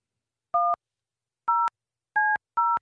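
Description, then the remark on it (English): Four telephone keypad tones as a studio room phone on the Free Beer and Hot Mix Show is dialed to call a listener, each a short steady two-pitch beep, dialed at an uneven pace with silence between them. The tones are clear and there is no talking. “I don't have to dial 9 and 1, then a code.”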